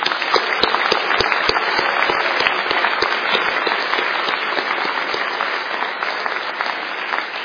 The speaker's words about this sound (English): I think what we will do is take this time to really thank all the people that have really contributed to this conference. So can we give them a round of applause?